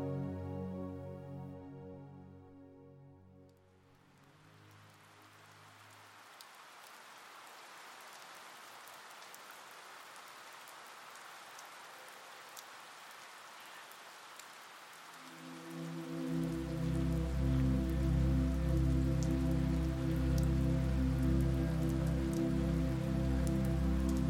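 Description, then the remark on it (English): Soft, steady rain falls outside a window with no wind, droplets pattering continuously and rhythmically on the ground in a hushed wash. Low sustained musical tones fade out early on, then swell back in more strongly over the rain near the end. “The first thing Lily hears when she opens her eyes is the sound of gentle rain coming down outside her window.”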